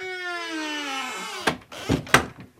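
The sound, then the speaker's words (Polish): A door sound effect: a long, tonal creak sliding downward in pitch, then three sharp bangs in quick succession, fairly loud, with no talking. “Tak się robi efekty. Drzwi.”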